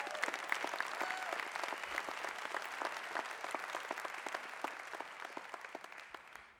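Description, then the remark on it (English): A church audience claps steadily together as a hand clap of praise to God, a dense wash of many hands with sharp individual claps popping through, sustained at an even level before tapering off at the end. “Everybody who is a seed sower, give God a hand clap of praise.”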